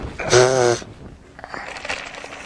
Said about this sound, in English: And then, a tissue. Are you gonna blow your nose? You want help? Go.